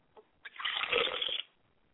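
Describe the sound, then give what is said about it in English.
Liquid is poured as a libation in a short, steady stream lasting about a second, moderately loud, preceded by a couple of faint taps, with no voices. “I pour libations to the east, and I say Ashe.”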